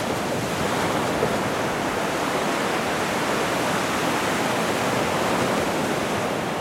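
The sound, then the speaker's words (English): Steady, roaring wash of ocean surf crashing at the drowning city of San Luis, a dense hiss of breaking water with no distinct individual crashes and no voices, holding an even loudness throughout. “He looks out at the crashing waves and says, it could even be tonight.”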